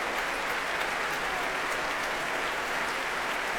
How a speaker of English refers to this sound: The street choir, the street people, are being cheered too, but that particular round of applause actually is for the National Welsh Chorus, who are singing alongside the National Youth Chorus of Wales.